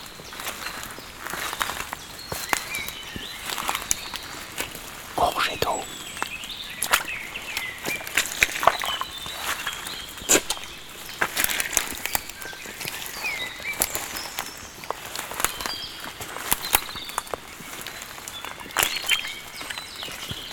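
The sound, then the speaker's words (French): Irregular footsteps tread through dense forest vegetation on soft, greasy soil, each step a short squelch or crackle of twigs and branches. They continue steadily for the whole stretch, with faint high chirps in the background and no talking. “Au sol, comme vous pouvez l'entendre, la terre est grasse.”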